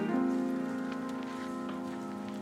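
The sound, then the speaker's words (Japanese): Soft, steady rain patters on hard surfaces on a rainy holiday in town, raindrops running slowly down a shop window's glass, with faint scattered drips, under a sustained low tonal hum that runs through the whole stretch. Quiet and even, with no voices. “ショーウィンドウのガラスを雨粒がスローで流れていく。”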